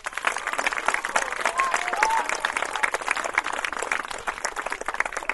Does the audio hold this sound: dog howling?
no